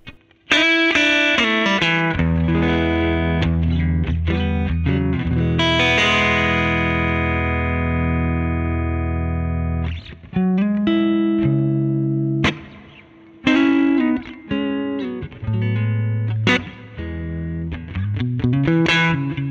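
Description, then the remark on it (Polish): A jazz guitar run through tube amp overdrive plays rich, gritty chords, letting one ring out for several seconds before moving into shorter chord phrases, loud with no voices. “Spróbujmy jeszcze na jazz wersji, pobawić się przesterem.”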